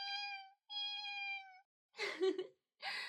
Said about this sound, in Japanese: にゃーにゃー。 ほら、おいで。よしよしよし。ほらほら、こっちおいで。